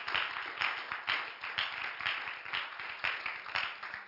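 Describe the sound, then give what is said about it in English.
An audience claps their hands to God in the morning in a steady, dense wash of applause, with rhythmic pulses of louder claps recurring about twice a second. “Would you clap your hands to Him this morning for just a moment?”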